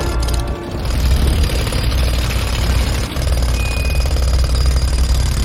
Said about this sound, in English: A man's jackhammering the road outside Miracle Motion Pictures.